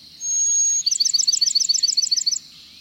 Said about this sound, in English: Bird sounds on Bird Note come from the Macaulay Library at the Cornell Lab of Ornithology.